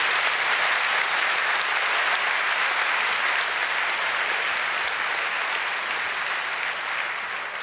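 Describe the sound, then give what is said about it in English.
An audience claps steadily for several seconds, a round of applause for the speaker's co-authors, a dense, even wash of many hands with no voices on top, holding at a constant loudness before easing slightly toward the end. “So please, a quick round of applause for my co-authors as well.”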